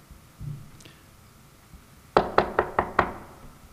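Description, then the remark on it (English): Five sharp knocks rap out in a quick, even rhythm on a wooden front door, loud after a brief stretch of quiet room noise, on a Wednesday evening; the knocker is an Internal Revenue Service criminal investigator. “Front door. I go to the door.”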